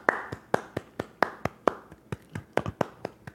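A single person claps steadily in applause, roughly a dozen sharp hand claps in a quick, slightly uneven rhythm, moderately loud with no talking.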